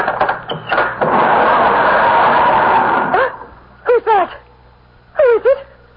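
A garage sliding door is opened at dusk, rolling open with a loud, steady rumbling scrape lasting about two seconds, followed by a few short, high-pitched dog yips.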